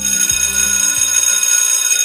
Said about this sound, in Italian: Maestro, è suonata. Maestro, è suonata. Cosa? La campana. Che campana? La campana! Non è possibile. Non l'ho sentita.